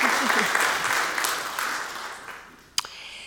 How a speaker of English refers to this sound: She did a wonderful job. That was her first time. Yeah, give her some applause.